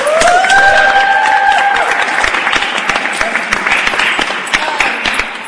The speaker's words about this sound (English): But real quick, before we do this poem, I want you all to give a huge round of applause for yourselves. Thank you for being an amazing audience.